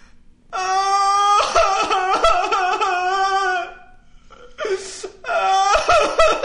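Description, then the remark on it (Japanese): A voice imitates a child crying, with long wavering wails broken by sobbing catches, then a sharp breath and another drawn-out wail, fairly loud. “おめ、おい、おめ、泣いてんのか。”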